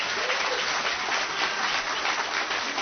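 An audience claps in answer to a poll about having comforted someone distraught over the Donald Trump election results, a dense, even wash of many hands that holds at a fairly loud level for a few seconds, with no voices standing out.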